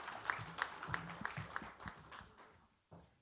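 An audience applauds the Second High School (II LO) in Słupsk at an award ceremony, in a steady, rhythmic beat of claps about three per second, fairly soft overall, fading out near the end with a final lone burst.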